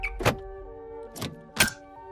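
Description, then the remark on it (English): A car door is slammed shut from outside with a heavy thunk, then two sharper clunks follow about a second apart as it is locked with the key, all over a steady, low tonal hum. “Instead, he shuts the door, locks it, and snaps the key in the lock.”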